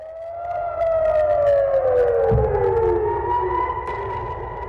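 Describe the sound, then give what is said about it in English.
Air raid sirens wail steadily in the Golan Heights as Iranian forces in Syria fire about 20 rockets at the Israeli military. Several overlapping tones slowly slide downward together, with a brief low thump partway through and no voices. “Sirens there as Iranian forces in Syria fired about 20 rockets into the Golan Heights, targeting the Israeli military.”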